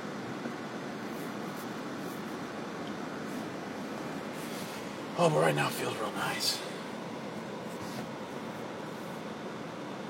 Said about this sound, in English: That air conditioning is maybe on a little heavy.